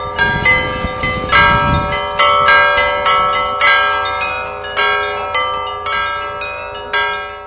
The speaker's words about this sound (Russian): На протяжении всего молитвенного шествия беспрерывно звучал колокольный звон.